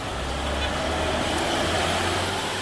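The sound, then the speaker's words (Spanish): A steady wash of street traffic with a deep low rumble, like trucks and cars passing on wide city avenues lined with buildings, fairly loud and continuous throughout. “Semejantes avenidas, tanto tráfico, todas estas casas, más bien dicho, edificios.”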